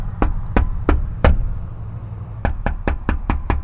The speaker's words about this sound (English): But right under the sound hole of the guitar, there was, you know, a regular door. So like any other dope, I knocked. Wonder if anybody answered.